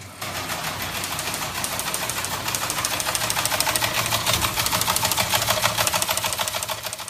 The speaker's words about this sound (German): Nachrichten hatten auf einmal ihren eigenen Sound. Und der war so prägend, dass er sich auch in der Sprache niederschlug. Das Ticken des Fernschreibers führte zum lautmalerischen Wort Ticker.